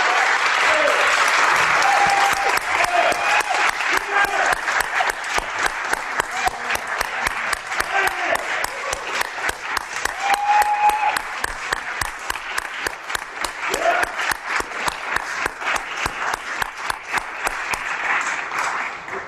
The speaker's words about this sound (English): A nice sustained applause there. Yeah, that's the Electoral College voters for Biden and Harris in the room right there in Georgia.